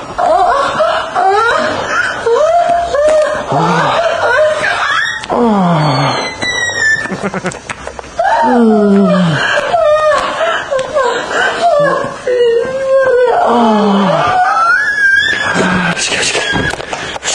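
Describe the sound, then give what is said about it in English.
A woman lets out loud, high-pitched squealing shrieks like a pig during sex, repeated in wavering bursts for several seconds, piercing, with laughter-like breaks between them. “She begins to squeal like a pig here.”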